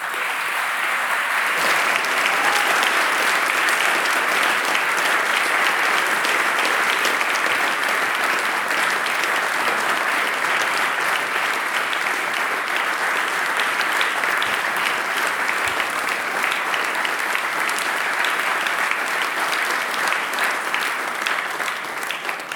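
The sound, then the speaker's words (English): Sustained audience applause acknowledging a man's service, a dense, loud wash of many hands clapping that holds steady for over twenty seconds without letting up, with no talking over it. “And he definitely deserves a round of applause.”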